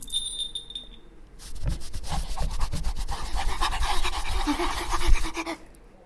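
A dog pants in quick, rhythmic breathy bursts for several seconds, following a brief high-pitched electronic tone at the start; no one speaks.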